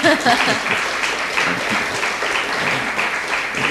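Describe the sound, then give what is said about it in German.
An audience breaks into sustained applause to welcome a visiting priest, a dense, steady wash of many hands clapping at even loudness, with a few voices briefly audible underneath at the start. “In our place, when we welcome people with clapping.”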